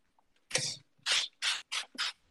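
Five quick hissing spritzes from the trigger of a spray bottle of glass (window) cleaner, bright and breathy, the first longer with a low clicky rattle, the rest short bursts in a loose rhythm.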